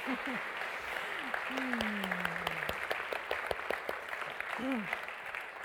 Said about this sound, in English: Let's give a round of applause again for our players in the field of love.